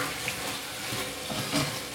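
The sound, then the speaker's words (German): Meat for chili con carne sizzles in a frying pan, a steady crackling hiss that holds evenly throughout, moderately loud, with no voices. “Fleisch brutzelt. Ich hoffe, das ist nicht zu laut hier.”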